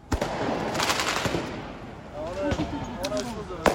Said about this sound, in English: Now that is the sound of protesters setting off fireworks on the streets.